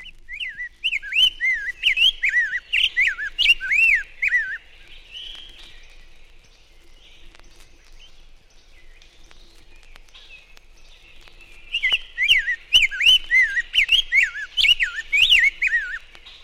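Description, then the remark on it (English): A rose-breasted grosbeak sings two bursts of clear, sweet, robin-like warbled phrases, slurred, separated by a long quiet pause. The song is bright, with no voices. “Rose-breasted grosbeak is an associate of the scarlet tanager, but its robin-like song is clearer and the phrases are slurred.”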